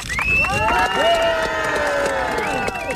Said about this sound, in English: As the onlooking crowd cheered their approval, a table was strewn with coal and miners' hats, and milk was given to children.